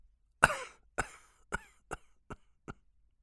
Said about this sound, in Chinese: 说到这里，连连咳嗽，已是上气不接下气。